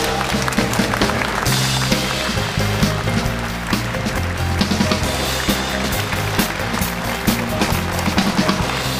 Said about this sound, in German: Und der Applaus unseres Publikums begleiten Oliver hier zu uns.